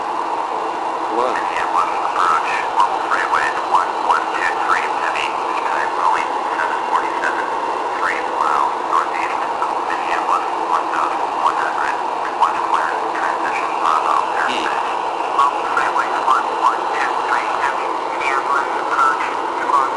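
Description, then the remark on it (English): A simulated airplane engine drones steadily for the whole stretch, a constant mid-pitched hum with slight flutter, moderately loud and unbroken, with faint voice-like murmurs mixed into the background. “We're going to set FS nav to start flying our plane.”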